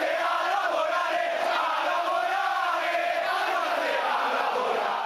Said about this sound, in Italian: Non è un buon segno quando i tifosi iniziano a intonare all'indirizzo della propria squadra un coro del genere.